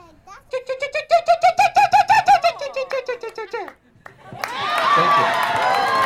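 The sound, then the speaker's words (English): At a bird calling contest, a human voice imitates an oystercatcher with a fast, rhythmic series of shrill piping notes that slow and fall in pitch at the end, followed by a burst of crowd applause and cheering. “So here's my best Oyster Catcher impression.”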